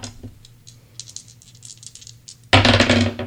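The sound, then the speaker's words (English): Dice rattle in a cupped hand with quick, light clicks for a couple of seconds, then tumble loudly and clatter across a hard surface near the end, with no talking; the roll picks a line to read from a book. “We're going to read one line that corresponds with the dice that you roll. So go ahead and give us a roll.”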